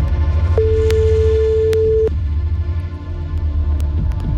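telephone ringing tone

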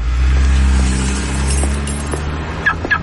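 car being locked

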